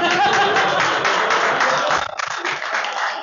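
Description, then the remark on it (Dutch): Audience applause welcoming a show's panel member: a dense, steady wash of many hands clapping at moderate loudness, thinning slightly toward the end, with no voices standing out. “Een hartelijk applaus.”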